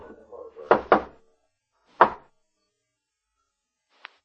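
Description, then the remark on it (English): Knocking on a door: two quick raps, then a single louder knock after a pause, followed by a faint click. A brief murmur of voice comes just before. “We stopped in front of it, and the blind man knocked.”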